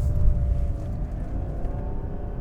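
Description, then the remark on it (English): A car engine revs with a heavy low rumble and a steady droning whine during a test drive, its pitch dipping slightly and then holding as it shifts into second gear and comes into a corner with the power on. No one speaks. “Second gear, revs up. We come into the corner, power on.”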